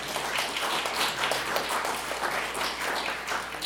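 Steady crowd applause at a radio Hall of Fame awards ceremony as Channel Z Radio is announced as one of the three new stations inducted; a dense, even patter of many hands clapping at a fairly constant loudness for a few seconds, with no voices over it.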